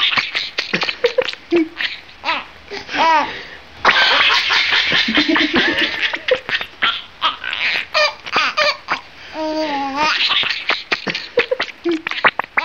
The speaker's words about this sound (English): When you see him tickle the rat and the rat kick its little rat legs and chirp like mad, it does look like the animal's cracking up, like a little kid.